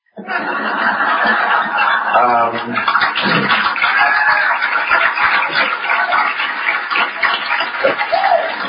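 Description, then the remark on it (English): The studio audience of the TV show Real Time applauds loudly and steadily for about eight seconds as the host returns for the show's 8th season after a hiatus. The dense clapping is mixed with scattered cheers and laughter, with no one speaking over it. “They're applauding me being out of work.”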